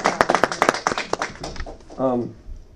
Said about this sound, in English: I say a round of applause. Yeah, absolutely.